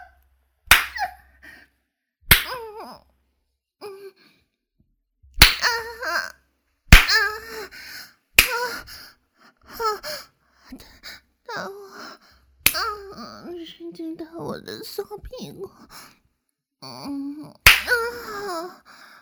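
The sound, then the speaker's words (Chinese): About seven sharp, loud hand slaps against bare buttocks land at irregular intervals as a person lies across another's lap being spanked by hand, each slap followed by a voice making breathy moaning and laughing sounds. “主人，好吧，主人的手打到我的屁股，好舒服啊！”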